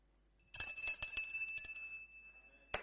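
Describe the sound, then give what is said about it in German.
A bicycle bell rings in a quick burst of several metallic dings, its bright tone lingering and fading, followed by one more sharp ding near the end; clear, no voices. “Vergesst alles andere, aber das Klingeln nicht.”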